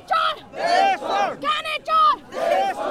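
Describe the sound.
Demonstrators in New York City shout the chant "Gyani Chor Des Chod" against King Gyanendra in unison, loud raised voices repeating short, strongly pitched phrases in a steady rhythm of about two bursts per second with brief gaps between them.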